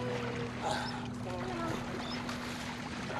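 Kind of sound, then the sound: vehicle, boat on water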